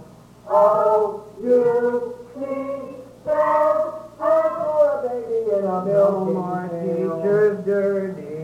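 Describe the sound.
A boy imitates a dog, letting out a series of loud, yelping barks in quick succession, then trailing into a longer drawn-out howling call.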